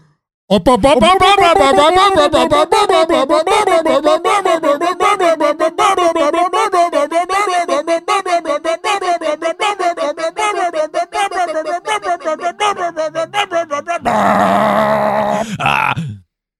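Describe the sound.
A loud bunker alarm wails nonstop for about fourteen seconds, its pitch warbling up and down in a steady rhythm and sounding almost like a straining voice, then shifts to a harsher, noisier tone before cutting off.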